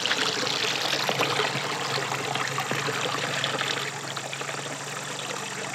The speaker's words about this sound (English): Though just some 40 yards from busy Highway 71, big trucks rumbling by is a steady source of sound, the area is rich in diversity. The West Fork of the White River flows by.